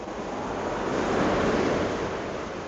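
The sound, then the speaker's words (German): Broad, steady roar of surf as waves wash in, the water approaching again, a continuous rushing swell that builds slightly in the middle, with some wind noise and no voices. “Wasser. Jetzt kommt das Wasser wieder näher.”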